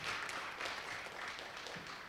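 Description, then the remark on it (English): A crowd claps hands in praise of the Lord, a dense, steady patter of many overlapping claps at even loudness throughout, with no clear rhythm and no voices standing out. “Let's give the Lord another hand clap of praise for all he's done for us.”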